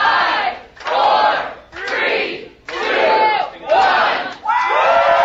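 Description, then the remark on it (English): A crowd inside the Ada County Courthouse in downtown Boise shouts a countdown from five to one in unison right at 10 o'clock, as a court stay is lifted; loud, evenly spaced collective calls echo, with brief dips between each shout. “Then, inside the courthouse, right at 10, a countdown.”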